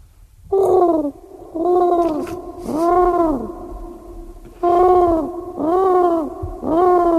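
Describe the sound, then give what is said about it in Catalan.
A person imitates a pigeon's cooing with six rounded, warbling vocal coos in two groups of three, fairly loud, separated by a brief pause. “Sí, puc fer el colom.”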